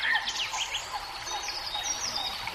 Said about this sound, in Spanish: No sé si ahí en las arquías suenan con tanta cantidad de pajaritos y tanta cantidad de agua.